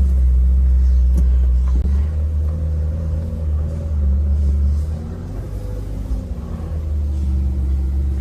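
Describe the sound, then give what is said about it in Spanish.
The engine of a GTS sports car, one of 600 in the world, set to mode 1, rumbles with a deep, loud, steady drone, its pitch climbing and dipping briefly partway through as it revs. No one speaks. “Aceléralo.”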